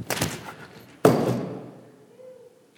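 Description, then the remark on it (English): A clatter of objects toppling as a speaker deliberately knocks over a pile of stuff, then a heavy thud around one second as something falls hard, followed by a decaying rattle and settling noise that fades out. “And the only thing that stands in the way of him knocking over all of that stuff is me.”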